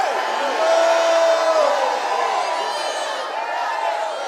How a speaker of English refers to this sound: When everybody else might be grouping and griping, you're going to be excited and shouting. As a matter of fact, you need to shout right now.